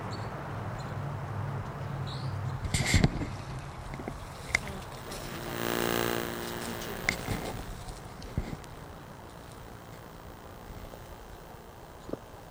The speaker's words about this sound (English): Recording. Here's the bird. It's close by.